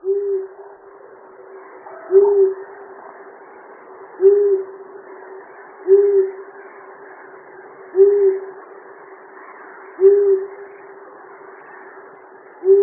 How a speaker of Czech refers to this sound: Posloucháme hlas Kalouse ušatého. Spolu s Puštíkem obecným je to naše nejrozšířenější sova. Převažující zbarvení je žlutohnědé, hlava nás upoutá nápadnýma oranžovýma očima a péřovými oušky. Kalous ušatý u nás hnízdí od nížin až vysoko do hor.